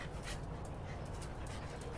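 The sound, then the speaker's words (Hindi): A dog pants steadily, quick breathy huffs repeating in an even rhythm for about two seconds, with no voices. “कैसे हो smart dog?”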